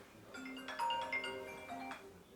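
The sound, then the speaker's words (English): A mobile phone rings with a short electronic melody of bright, steady tones stepping through a few notes, moderately loud, with no voices over it. “That's whilst your phone's ringing.”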